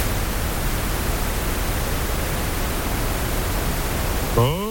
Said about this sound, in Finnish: Tämä tulee ilmeisesti vähän eri taajuuksilta, niin kuunnellaan miltä se niin kuin pinkki kohina kuulostaa.